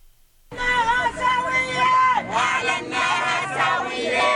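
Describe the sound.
Dozens of people chant loudly in unison at a solidarity vigil for Palestinian women prisoners at Bab Saqqaha in Bethlehem on International Women's Day, organized by the Palestinian Prisoners' Club, many voices rising and falling together in sustained, harmonic shouts that continue steadily after a brief silent start.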